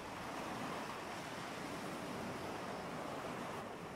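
A steady, rushing wash of ocean waves at the sea surface at night fills the whole stretch, a continuous broad roar of water with no distinct breaks or voices, fairly soft and even throughout.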